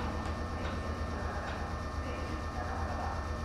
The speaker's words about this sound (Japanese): お待たせいたしております。この電車は普通稲荷行きです。